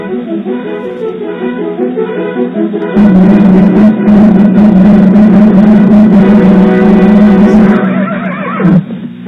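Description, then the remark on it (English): Brassy orchestral western radio theme music plays loudly as a musical interlude, swelling after a few seconds, with a horse's whinny rising out of the music near the end. “quick musical interlude. The Lone Ranger.”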